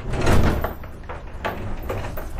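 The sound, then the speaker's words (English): A key turns in a lock and a chain is removed from the door of the vacant old Powell School building in Birmingham: several short metallic clanks and scrapes, with no one speaking. “He inserts a key into the lock and removes the chain from the door.”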